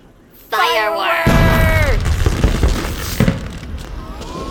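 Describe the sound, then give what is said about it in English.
Fireworks go off: a shrill whistling rocket streaks up, then a loud booming burst gives way to sustained crackling and fizzing, with another sharp pop a couple of seconds later. “Fireworks!”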